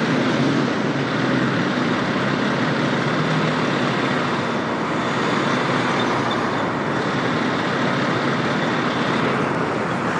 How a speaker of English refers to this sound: And a chance for some fire engine photos. Fire engine number 3 from Portland Fire and Rescue.